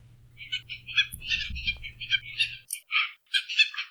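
A rapid series of harsh, raspy calls of red-tailed tropicbirds (Kauai ula), seabirds with long red tail feathers, repeated in choppy bursts, with a low rumbling background in the first half that then drops away.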